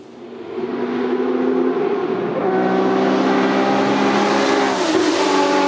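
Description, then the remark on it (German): The 580-horsepower 12-cylinder engine of a 917 Langheck race car roars loudly and continuously, its pitch climbing as it revs up and then holding a steady, powerful howl, with no voices present. “Dieses Geschoss mit einer Gewalt von 580 PS aus einem 12-Zylinder ist für viele Fans der Rennwagen des Jahrhunderts.”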